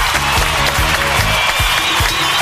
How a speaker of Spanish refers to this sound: Eso, muy bien. Aplausos, aplausos.